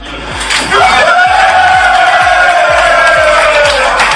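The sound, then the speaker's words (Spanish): A group of football players bursts into loud, sustained shouting and cheering in celebration, with one voice rising into a long whoop above the excited crowd; Santirso club players reacting to learning they will face Espanyol in the Copa del Rey. “Los gritos de los jugadores del Santirso”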